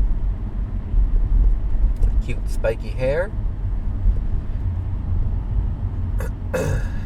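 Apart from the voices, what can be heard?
car interior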